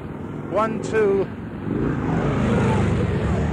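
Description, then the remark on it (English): Four police motor scooters arrive on a Washington highway where traffic has stopped, their small engines whining up and down in pitch for a moment before settling into a steady, loud mechanical rumble of idling traffic. “1, 2, 3, 4 police on motor scooters.”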